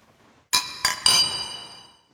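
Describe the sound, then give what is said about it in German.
Glasses of IPA beer clink together in a toast: three quick, bright knocks, the last one ringing on with a fading glassy tone. No voices are heard. “Prost, Freunde. Prost.”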